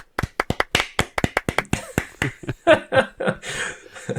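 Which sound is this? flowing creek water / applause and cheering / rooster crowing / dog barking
applause and cheering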